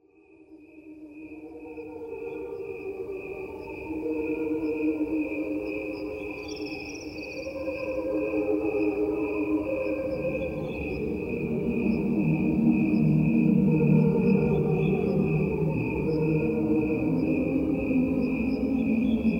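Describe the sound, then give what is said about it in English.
A recording of crickets in two tracks, one played at regular speed and one slowed down: crickets chirp continuously in a steady high-pitched trill, layered over a rich, lower droning chorus of slowed cricket tones that swell and grow louder toward the end, with no voices. “A recording of crickets.”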